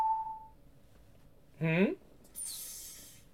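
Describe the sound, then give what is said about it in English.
A single steady electronic beep sounds briefly at the start, followed after a pause by a short vocal exclamation and then a soft hissing rush, like a door sliding open. “With a beep, the door suddenly opens in my face.”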